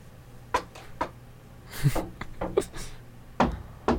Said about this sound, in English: So quickly, knock on wood, somewhere.